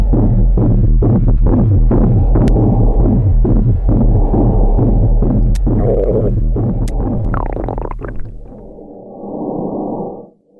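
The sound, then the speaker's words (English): A low, steady throbbing heartbeat thuds beneath a continuous electric buzzing hum of the nervous system, as heard in the quiet of space, with a few brief whooshing swells near the end before it fades out. “The loudest sounds will be your heart beating, your stomach gurgling, and the electric buzzing hum of your nervous system.”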